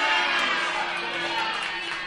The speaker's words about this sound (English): Well, I totally heard some boos there. Who was booing?